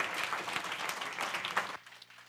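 A room full of people gives a round of applause for a guest who came out that morning, clapping steadily for about two seconds, a dense wash of hand claps that stops abruptly, leaving a faint low hum.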